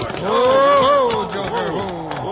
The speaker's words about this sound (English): you ain't going to try and turn them cows.